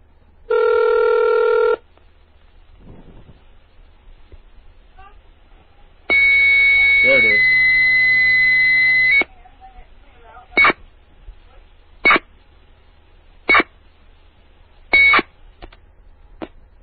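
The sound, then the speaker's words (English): A modem dials up a payphone line using HyperTerminal: a steady tone, then a longer, harsher buzzing tone, followed by four short, evenly spaced electronic bursts, clear over a quiet line. “Now this one should pick up. I dialed up into this phone using Hyper Terminal.”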